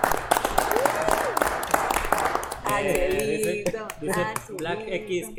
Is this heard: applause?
yes